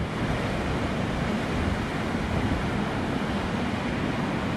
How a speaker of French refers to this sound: on s'est abrité, on va essayer d'affronter le vent à nouveau. Que vous entendez derrière, et je vais vous faire entendre quand même les rouleaux derrière moi.